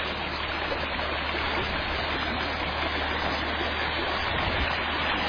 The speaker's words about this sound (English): And this is the video of the creek. This is what people have requested, to just see this beautiful creek.